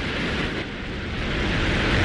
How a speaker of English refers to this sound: And this is what we heard yesterday morning as the rocket took off.